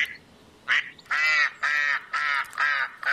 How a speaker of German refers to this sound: Hinter dem Spielplatz im Dänepark in Wien liegt ein kleiner See. Das Wasser ist trüb und dunkel, ein paar Enten suchen nach Nahrung.